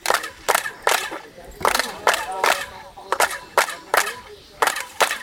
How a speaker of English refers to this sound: as tours reach the famous main pyramid, the guides stand a few meters back and ask everyone to start clapping their hands. When you clap your hands, what you get is you get a chirping sound.